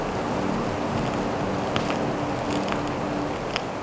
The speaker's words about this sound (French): mètres d'altitude, bourrasque de vent et froid sec.